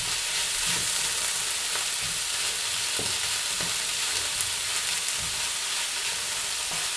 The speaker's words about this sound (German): Jetzt kocht es hier so. Das lassen wir jetzt einfach noch mal 1-2 Minuten noch mal ziehen in der Pfanne. Ich habe wirklich schon richtig Vollgas gemacht, das könnt ihr auch machen, damit der Tofu auch so ein bisschen schön anbrät oder angeröstet wird